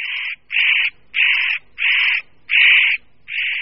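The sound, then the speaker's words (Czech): Harsh, rasping, loud warning calls of a spotted nutcracker, a shy forest bird about the size of a slim jay: about six grating bursts in a steady rhythm, each lasting roughly half a second with short gaps, heard alone. “Tímto osobitým způsobem se představuje jinak plachý lesní pták velikosti štíhlejší sojky, ořešník kropenatý.”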